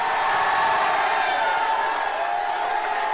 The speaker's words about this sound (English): Democracy leader Aung San Suu Kyi is a free woman walking out of her home today in Myanmar, where she had been held under house arrest for more than 7 years. She was greeted by cheering supporters.